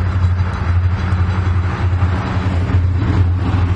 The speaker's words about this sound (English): Here comes the train.